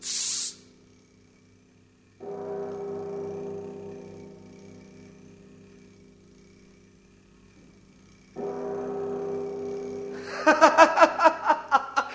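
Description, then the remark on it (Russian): A mechanical bronze bird sounds its call at three o'clock from behind a wall: two long, droning hoots separated by a pause, then a quick run of rhythmic chirping pulses. It is fairly loud, with no talking. “Чудаки-то, это же бронзовая птица! Точно! Правильно! Сейчас как раз 3 часа!”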